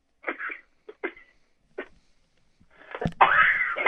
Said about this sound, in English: Excuse me. Bless you, brother.